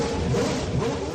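A loud, steady racing engine of Carlos Sainz's new Ferrari Formula 1 car, running for the first time, roars at high revs, a dense mechanical whine filling the whole short moment without a break or any voices.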